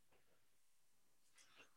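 Two quick sneezes a second apart, the first muffled and soft, the second a sharper, breathier burst, both fairly quiet with nothing else around them.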